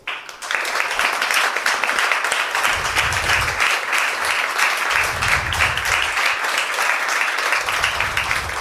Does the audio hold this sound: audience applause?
yes